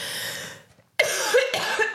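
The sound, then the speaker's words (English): Several harsh, chesty coughs from one person, coming in quick bursts with a short pause after the first, loud and raspy with no talking. “Why are you coughing up a lung?”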